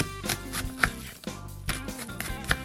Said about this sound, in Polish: Pokrojoną paprykę dorzucamy do miski z marchewką i bierzemy się za krojenie złocistej cebuli. Cebulę kroimy w drobną kostkę.